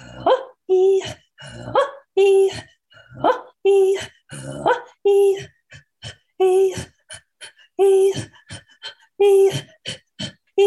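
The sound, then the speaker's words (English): Two people throat singing a song that imitates geese: quick, rhythmic honking voiced pulses alternating with breathy, raspy gasps in a steady back-and-forth pattern, loud and continuous, with no ordinary speech. “So a lot of the songs are inspired by the sounds of nature, the sounds of weather, animals, chores. Geese is one of my favorites.”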